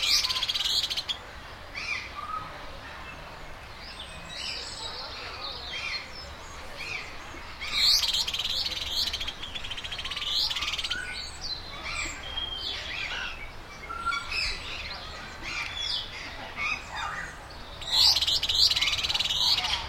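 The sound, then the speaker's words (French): Birds chirp and tweet steadily in the botanical garden in the Bronx, with several overlapping calls, some bright, others softer in the background, over a gentle ambient hush with no talking. “J'aime beaucoup les oiseaux.”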